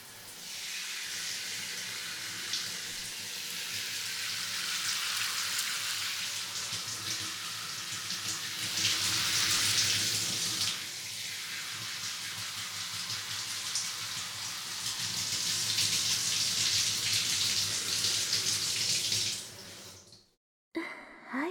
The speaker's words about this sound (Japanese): ザザーっとシャワーしちゃいますね。軽く流せたら大丈夫なので。